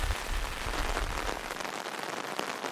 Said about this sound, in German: Ich gehe mit Martin durch den Regen im Lebensgarten.